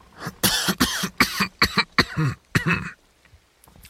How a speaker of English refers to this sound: A harsh cough rattled through his chest.